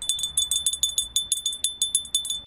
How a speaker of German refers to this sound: Bei tschechischen Kindern klingelt es aber schon einen Abend vorher an der Tür, und zwar so.